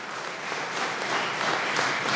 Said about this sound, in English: Pretty amazing, yes. Let me applaud.